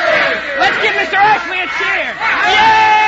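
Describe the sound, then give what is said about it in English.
A group of boys cheers and shouts together for Mr. Ashley outside his house, loud, with overlapping rising and falling yells that continue without a break for a few seconds. “Let's give Mr. Ashley a cheer.”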